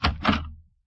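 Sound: apartment door being opened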